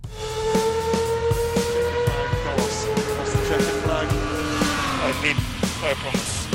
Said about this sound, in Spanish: Cogemos el coche Fórmula 1 y también motos, mucho motor este fin de semana,